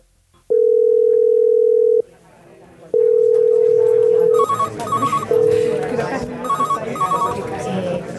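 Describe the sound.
A phone line rings with two long, steady electronic tones, then a third is cut short as the call connects to the InfoCáncer telephone helpline of the Asociación Española contra el Cáncer in Spain; a rapid trilling ring chimes in twice over background voices and music.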